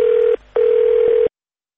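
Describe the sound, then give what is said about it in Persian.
The answering machine tone of Radio Farda's message line: a steady, mid-pitched electronic beep that breaks off briefly, then resumes for a longer stretch before cutting out into silence. No one speaks. “بله، صدای شما رو شنیدیم که پیام گذاشته بودید روی تلفن پیامگیر رادیو فردا.”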